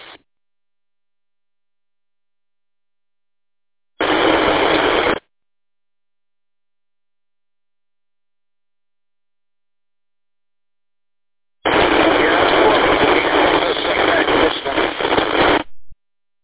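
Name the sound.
loud radio static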